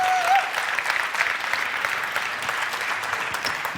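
A big round of applause from a crowd, dense steady clapping that holds at an even level throughout, with a brief high tone or whistle at the very start.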